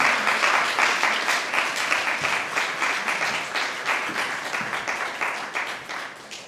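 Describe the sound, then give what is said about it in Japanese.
Sustained applause from a church audience welcoming a guest pastor to give a sermon, a dense wash of many hands clapping steadily at a fairly loud level, tapering slightly toward the end with no voices. “大きな拍手を持ってお迎えいたしましょう。”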